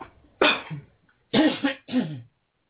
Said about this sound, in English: Now just take a deep breath, a very deep breath, and cough them out. Cough everything out.